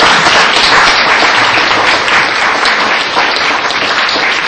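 An audience breaks into sustained applause, a dense, steady wash of many hands clapping at once, loud and even throughout with no voices standing out.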